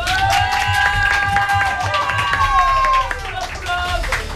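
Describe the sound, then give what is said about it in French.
An audience applauds guests from the Angers tattoo studio Atelier numéro 8, with dense, steady clapping, mixed with cheering and a few high whoops or whistles that slide downward near the end. “Et avec nos invités qu'on peut applaudir encore une fois,”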